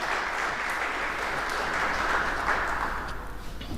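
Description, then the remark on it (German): On a 4, 3, 2, 1 countdown, the audience at a talk event applauds steadily, a dense, even wash of many hands clapping that holds at a constant loudness for several seconds, with no voices standing out. “4, 3, 2, 1. Klatschen.”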